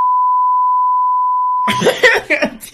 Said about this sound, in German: piep das mal alles, was ich gesagt habe. Nein, das musst du alles wegpiepen. Ich schneide einfach die Frequenz raus.